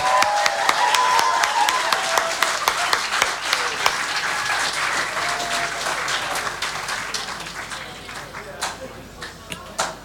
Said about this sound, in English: Hey, once again, do you guys want to give it up and give them another round of applause?